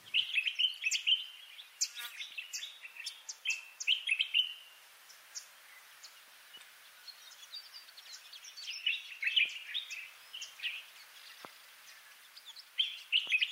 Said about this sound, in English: Or the bulbul in Africa and the Middle East.